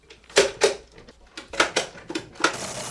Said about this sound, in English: Jerry, did you hear that? Telegraph tickers. They're sending messages.